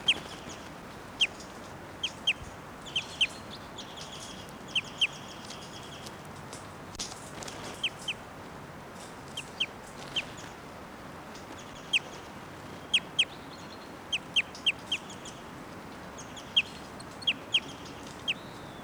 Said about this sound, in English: Now in 687's cage, and 687's giving some flight calls. That's her. 687.